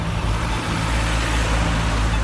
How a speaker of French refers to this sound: La ville, c'est circuler, il n'y a rien à voir. Trop de bagnoles.